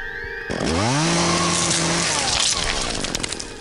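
A chainsaw starts up loudly and revs, its engine pitch sweeping upward then holding in a harsh, buzzing roar that stays steady until the end.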